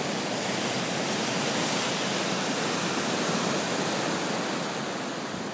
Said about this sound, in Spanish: Gracias, mar, por dedicarme ese súper sonido guay de ola.